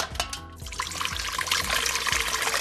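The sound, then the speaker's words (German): A liquid prepared for inhalation pours steadily through a sieve as a final check, a continuous splashing trickle that grows slightly fuller and hissier over a few seconds, with no voices. “Auch als Endkontrolle noch einmal, ob wir gut gearbeitet haben, kommt es jetzt noch durch Sieb.”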